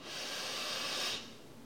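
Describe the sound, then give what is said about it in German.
A single long, deep inhale through the nose, a steady airy rush lasting about a second before trailing off, moderately quiet with no talking. “Wir atmen tief durch die Nase ein, gemeinsam.”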